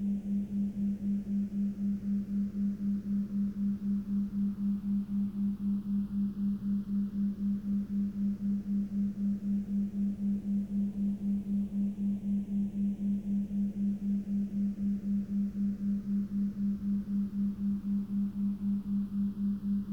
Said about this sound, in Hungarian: Az egyforma hangot most eltávolítjuk az egyik fülből, és helyette egy kissé eltérő hangot vezetünk be. A rezgés frekvenciájában eltérőt. Hallgasd a hatását.